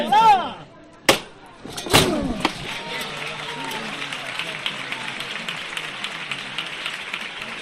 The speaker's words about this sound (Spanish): Bueno, se escuchaban esos aplausos también, como bien decía el capataz,